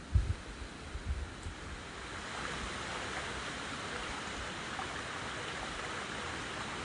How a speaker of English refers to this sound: We've now reached another little stream crossing. I'm going over the footbridge because the water is quite deep, but there is a ford, which if you're on a bicycle or in some kind of four-wheel drive vehicle, you probably could get across.